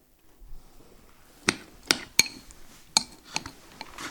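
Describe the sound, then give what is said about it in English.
Metal cutlery clinks against plates in a handful of sharp, bright strikes spaced irregularly over a few seconds as plates of omelette are served, with quiet behind and no talking. “Bit short on cutlery,”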